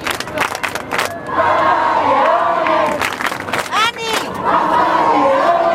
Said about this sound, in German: Dann kurz vor 9, große Unruhe. Die erste Fahrt von Leo im Papamobil. Alle sind sofort auf die Stühle gestiegen, Fahne schwenken, Handy raus und dann die ersten Papa-Rufe.